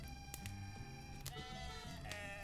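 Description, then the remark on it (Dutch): Sheep in an open field near a stable, with shepherds lying among them, bleat in overlapping, wavering calls against a steady low background, with a few sharp clicks scattered throughout. No one is speaking. “Niet ver van de stal, in een open veld, liggen herders tussen hun schapen.”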